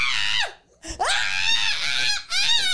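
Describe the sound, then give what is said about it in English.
A voice imitates a frightened girl's shrill scream in three loud bursts broken by short gaps, the pitch sliding and wavering at the ends like a panicked shriek. “I'd be screaming like the girl who was at.”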